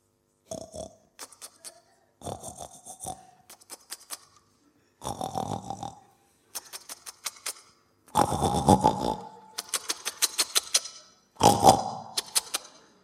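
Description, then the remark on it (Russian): A voice imitates a wild boar grunting in bushes: a run of rough, low snorting grunts mixed with crackly rustling clicks, coming in uneven bursts that grow louder toward the end. “Там вот такой кабан.”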